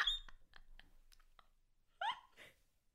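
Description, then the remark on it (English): A strained, high-pitched vocal squeak bursts out at the start, followed by a few soft clicks, then two sharp rising squeaks close together near the end. “That was the squeak of the century.”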